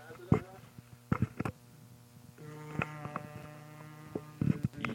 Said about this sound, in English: That sounded like a vibrator. It's a shaver, I swear.